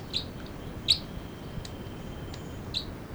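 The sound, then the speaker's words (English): Short, high-pitched chitter notes from the bird numbered 306 sound in a few sharp bursts over a low, steady background rumble, with one louder burst near the middle and fainter chirps around it; bird 305, the male, is also present. “The chitter by 306.”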